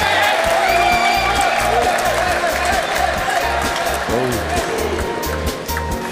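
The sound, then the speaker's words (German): A loud, steady crowd roar of cheering and applause for Jan Koller during a darts throw, with shouting voices and whoops mixed into the dense noise for several seconds. “Applaus gibt's dann natürlich für Jan Koller.”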